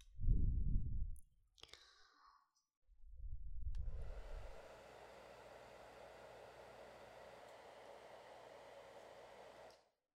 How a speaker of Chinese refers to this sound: 正好你的床边就有插座，我拿吹风机给你吹一下头发。